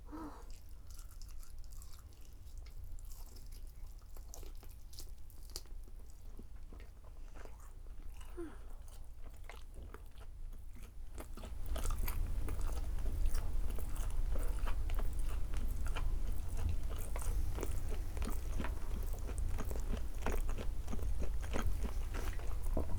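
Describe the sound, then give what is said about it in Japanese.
Crunchy fried chicken being chewed in a steady run of crisp bites and crackles, with no talking; the crunching grows noticeably louder and fuller about halfway through. “フライドチキンって美味しいよね。”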